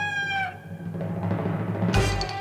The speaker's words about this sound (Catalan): mescla la cinquena sinfonia de Beethoven amb coses de saxo, amb un gall de cop i volta que surt cantant per allà